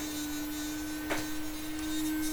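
A small electric toothbrush motor hums with a steady, even buzz for the whole stretch, wavering slightly once midway, with no talking.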